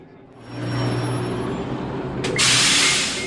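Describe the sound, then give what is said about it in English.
A COTA city bus in North Columbus, Ohio idles with a steady low engine rumble as Democratic governor nominee Cordray steps on board. A loud pneumatic hiss bursts out near the end, like the doors or brakes releasing air. No one speaks. “Cordray steps onto a COTA bus in North Columbus to see how new high-tech innovations can help buses run routes more efficiently.”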